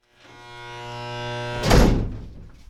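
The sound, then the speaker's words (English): A steady electric buzz hums for over a second, then a heavy locked door at Androscoggin County Jail bangs with a loud metallic clank that rings briefly and fades. Fairly loud, with no talking. “makes his way through a series of locked doors past a holding area designated for short-term bookings.”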